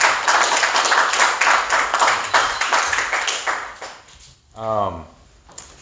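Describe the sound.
A crowd applauds with steady, dense clapping for several seconds, then fades as a single voice rises in a brief whoop or call near the end.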